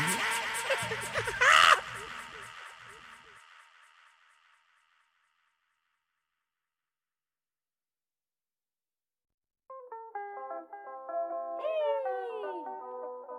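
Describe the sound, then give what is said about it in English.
A cat meows several times in a row, with drawn-out rising and falling cries, fairly loud. It comes after a burst of louder tonal sound and a long stretch of silence. “bring in the cat.”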